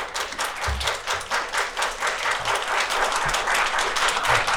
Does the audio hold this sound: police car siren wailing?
no